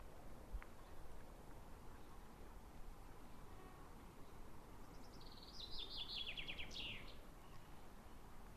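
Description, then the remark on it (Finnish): A single short burst of birdsong, a quick run of bright chirping notes, rises midway through over a steady low rush of wind or water, on a fine morning after a storm, with only a light breeze blowing. “Ja kuulee linnun laulu.”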